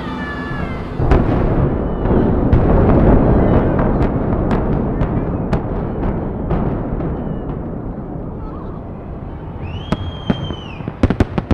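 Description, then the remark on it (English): A rapid series of sharp blasts from demolition charges implodes Pittsburgh's Three Rivers Stadium, setting off a long, roaring rumble as the structure collapses, with more loud cracks and a brief whistling tone near the end. “The implosion was followed by a fireworks display.”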